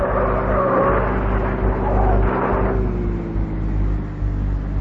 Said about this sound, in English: I run outside, grab a police car, and start chasing. The roads are wet and slippery, and when we reach a bend just outside the city, the car I'm chasing doesn't make it.